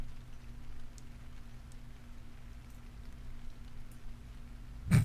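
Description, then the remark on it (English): Light, chilly rain falls during a walk in a steady, soft hiss with faint scattered drips, a low hum underneath, and a brief louder rustle right at the end; no one speaks. “Well, at least it's a nice rain, albeit a little bit chilly.”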